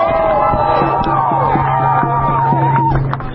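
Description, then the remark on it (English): A large crowd of demonstrators shouts and cheers together outdoors while marching down a street in Leith, a loud, continuous wall of voices with rising yells and whoops carrying steadily throughout. “The demonstrators marched down the street to Cobb's house, and the crowd let it be known Cobb and his supporters weren't welcome”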